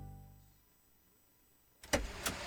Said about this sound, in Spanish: Apenas arranqué el auto para salir, me dijo, papi, ponte el cinturón de seguridad.